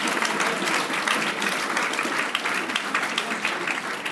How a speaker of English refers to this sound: Come on, if you're clapping for me, that's fine. But we're clapping for the Lord. Oh, church, come on. Some of you aren't even clapping. We're clapping for the Lord.